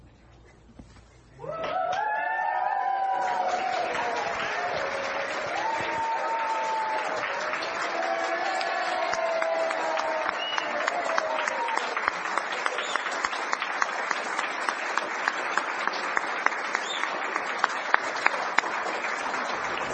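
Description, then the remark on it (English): After a brief quiet moment, an audience bursts into sustained applause mixed with cheers and whoops for a young woman crossing a bridge toward the young adults, a dense steady roar of clapping that carries on loudly to the end. “And cheer her as she comes your way.”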